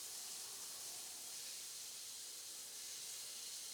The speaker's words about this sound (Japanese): お湯がたまるまでシャワーで楽しもうね。